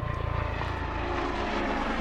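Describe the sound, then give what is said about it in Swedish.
A police helicopter roars overhead above the town of Vetlanda. Its low rotor thumping pulses rapidly at first, then blends into a loud, steady engine drone. No voices are heard. “Vi får rapporter från folk inne i Vetlanda att helikopterna hörs över staden bland annat.”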